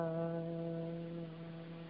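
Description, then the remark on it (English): During a guided breathing exercise, a person hums one steady, sustained low note after inhaling and raising the shoulders. The note holds for about two seconds, fairly soft and on its own, easing slightly in volume toward the end. “Inhale as you raise the shoulders up. Hum.”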